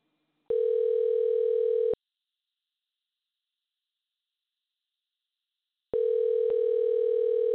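A telephone line ringing on the caller's end as a call is placed: two steady, buzzy electronic tones, each lasting over a second, separated by a long stretch of silence. Clear, with no voices.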